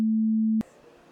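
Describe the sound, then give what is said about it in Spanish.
A mobile phone gives a single steady, low electronic beep lasting about half a second, then cuts off abruptly with a soft click, leaving only faint background noise and no talking. “¿Mi móvil?”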